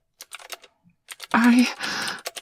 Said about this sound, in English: Are you typing out everything that I'm saying?